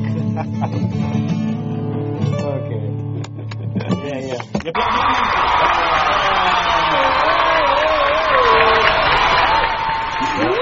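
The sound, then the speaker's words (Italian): A few seconds of music cut off abruptly, then steady, loud applause from the show's production control room (the directors) takes over for about six seconds, mixed with cheering and excited voices. “Stavolta gli applausi della regia sono sì, sono arrivati, non sono tutta sta gente al Poli, pazzesco.”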